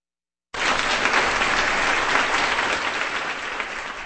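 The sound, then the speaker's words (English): A concert audience bursts into sustained applause after a short silence, for flutist Louise Dixon, violist Maxwell Ramey and harpist Sarah Bulin after Debussy's 1914 Sonata for Flute, Viola and Harp, broadcast on Kansas Public Radio, a dense, steady wash of clapping at an even, fairly loud level, fading only slightly toward the end. “Applause for the flutist Louise Dixon, playing viola, Maxwell Ramey, and harpist Sarah Bulin in the 1914 Sonata for Flute, Viola, and Harp by Claude Debussy on Kansas Public Radio.”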